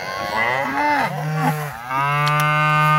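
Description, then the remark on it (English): Pregnant cows moo loudly during calving season, one long drawn-out low call sliding in pitch and then flowing into another steady moo that fills the whole moment, with no one talking. “Herds of pregnant cows could give birth at any moment, meaning 24/7 responsibility for ranchers to help any that are having trouble delivering safely.”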